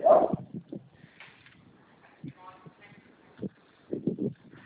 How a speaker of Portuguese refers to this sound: Esse barulho é eu andando com os cachorros aqui na rua, tá? Não tem problema não.